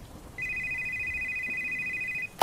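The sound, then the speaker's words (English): A pizza restaurant's telephone rings with one steady, high electronic tone lasting nearly two seconds, fairly loud against a quiet background, followed by a brief click at the end. “We had someone pick up an order around 10:15, but we had nothing else until 10:50, when the phone started ringing.”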